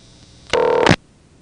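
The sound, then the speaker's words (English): A single short electronic telephone tone, about half a second long, starts abruptly and cuts off sharply, with a faint line hiss before and after. No one speaks. It is the tone answering a dialed number, cut off by a payphone because no coin is inserted. “Way off in the background, you may have heard the tone that actually answered this number. But because there's no coin in, the phone is cutting the sound off.”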